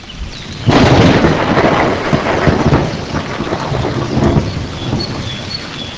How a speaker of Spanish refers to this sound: se desató una tormenta tan fuerte que daba la impresión que el mundo se estaba acabando